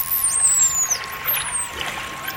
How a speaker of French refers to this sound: Et la particularité de ce sifflement, c'est son sifflement signature. C'est-à-dire, quand on l'a appelé, elle a donné son nom en dauphin, qui est ce fameux sifflement signature.